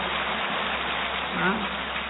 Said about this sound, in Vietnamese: Tốt thì đương nhiên phải một tràng pháo tay thật to chứ.